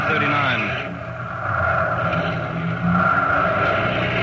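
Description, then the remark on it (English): Car engines rumble and whine steadily as officials' cars drive off after greeting ceremonies in April 1939, heading for banquet halls. A continuous loud motor noise with a rising hum and faint indistinct voices mixed underneath. “Cars are leaving now.”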